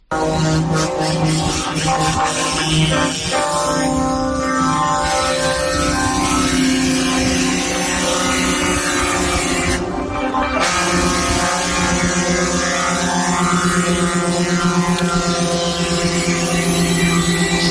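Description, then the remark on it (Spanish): Horns of several dozen truck tractor units blare together in a loud, continuous wall of overlapping tones at several pitches, sustained for the whole stretch with only a brief dip partway through, during a slow protest march by truckers through the centre of Ourense in the afternoon, amid a transport strike. “Sonido de las bocinas de varias decenas de cabezas tractoras de camiones que protagonizaron en la tarde de ayer una marcha lenta por el centro de la ciudad de Ourense.”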